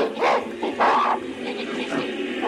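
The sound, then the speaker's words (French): Apes shriek and hoot in loud, overlapping bursts, two sharp cries rising above a steady, agitated chatter of calls, frantic with no one speaking, in the scene from Kubrick's film 2001: A Space Odyssey where they discover a mysterious black monolith. “Scène culte du film de Kubrick où des singes, on l'entend, découvrent un monolithe noir mystérieux tombé du ciel.”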